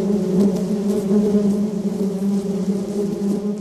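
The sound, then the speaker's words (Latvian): A dense, steady buzzing of many honeybees around a hive in Latvia, kept for linden honey, a loud continuous low hum with no voices and no breaks throughout. “bet mēs vairāk koncentrējamies uz liepa medu, un tāpēc man arī šis projekts mums ir plānots līdz jūlija beigām, bet nu izskatās jau, ka viņš varbūt arī jūlija vidū jau būs bites jāņem nost, jo liepas būs beigušās.”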